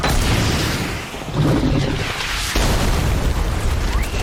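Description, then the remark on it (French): A loud rocket-launcher explosion inside a closed train car in a film bursts into a dense, roaring rumble that stays heavy and sustained, with a second sharp blast partway through and debris-like crackle continuing to the end. “Ok, il n'y a aucune chance que qui que ce soit ait survécu à une explosion de lance-roquettes oui, comme ça dans un wagon fermé.”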